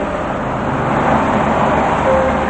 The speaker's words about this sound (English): She watches a dark car drive past.